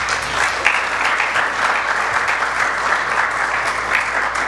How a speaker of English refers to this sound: So I'd like you to give a round of applause